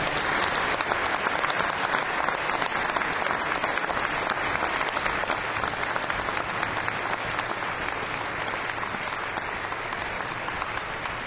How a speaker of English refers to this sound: Trying to clap along with me there.